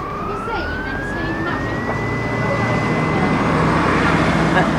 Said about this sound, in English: Well, that was a bus. That was a number 33 bus from Cookridge.